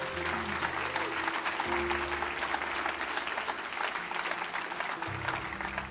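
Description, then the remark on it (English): An audience bursts into steady, sustained applause as a clap offering to the Lord, a dense wash of many hands clapping at once that holds loud and even for several seconds. “Give the Lord a good clap offering, would you?”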